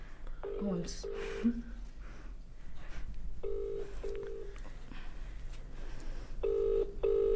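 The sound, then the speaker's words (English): A phone call to a friend connecting during a live radio broadcast: short electronic tones at first, then a steady ringback tone sounding in repeated double pulses at regular intervals over a constant low background hum. “So it's phone a friend time.”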